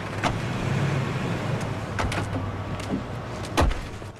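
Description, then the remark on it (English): Three people climb out of a car in the car park of the Miami Customs Office: a few sharp door clunks and thumps over a steady low engine hum, with shuffling and rustling between them and no talking. “Brian, Pierce, and Bilkins all get out of the car.”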